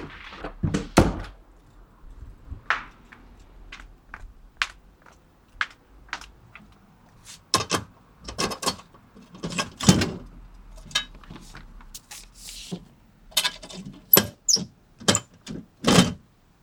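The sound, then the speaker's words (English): A drawing is pushed into a mailbox to be sent off: a string of sharp metallic thunks and clacks, irregular and fairly loud, with rustling and the rattle of a flap between them. No one speaks. “Now putting in this in the mailbox.”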